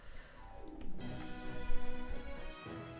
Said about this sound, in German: Die Musik ist ein Ticken laut, oder?